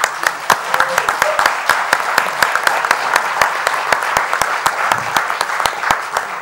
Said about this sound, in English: If your approval that we do this, please let me know by hand clap or yell.